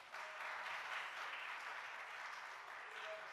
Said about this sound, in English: You ought to give yourself a hand clap real quick.